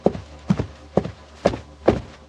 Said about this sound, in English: No, that's not. That's like dogs. That's like outdoor footsteps. I don't think that's what we're talking about. Human footsteps.